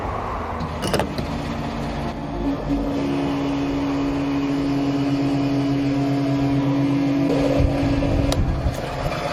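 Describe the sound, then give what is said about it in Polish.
A fuel pump at a gas station whirs steadily with a low motor hum and rushing flow as a Type R car's tank is filled to full, then a sharp click near the end as the nozzle shuts off at the first click-off. “I było pierwsze odbicie.”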